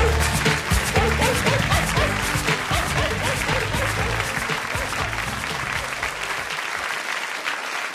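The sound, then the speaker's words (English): A crowd claps steadily in a dense, sustained round of applause, loud and continuous for several seconds, with faint cheering mixed in before it tapers slightly at the end. “So yeah, lots of applause there for the silly taxi driver.”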